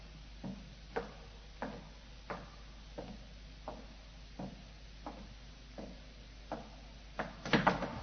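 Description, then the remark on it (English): A skeleton key works in an old lock with a steady series of sharp metallic clicks and rattles, ending in a louder clatter as the door is pulled open. No one speaks. “Well, here's the door. I'll use the skeleton key.”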